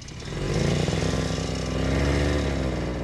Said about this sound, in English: To get anywhere outside the village, Matthew jumps on his snowmobile. The Gwich'in use the frozen rivers and lakes as superhighways.